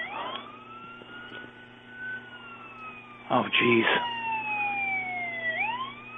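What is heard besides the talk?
siren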